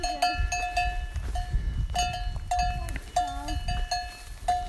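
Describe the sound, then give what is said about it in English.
A cowbell on a cow clanks irregularly, ringing out in uneven bursts as the animal moves, over a low outdoor rumble in California with no talking. “Cheers, cow friend.”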